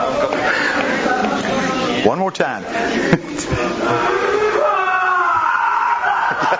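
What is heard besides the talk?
crowd roaring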